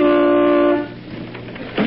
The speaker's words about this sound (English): Oh, there's Bing in the upstairs window. Hey, who's that honking in C sharp?